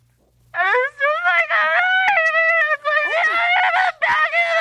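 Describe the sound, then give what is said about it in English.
A man lets out a loud, drawn-out scream lasting several seconds, wavering in pitch with brief breaks for breath, with no other sounds around it. “He's so he starts just screaming into the air.”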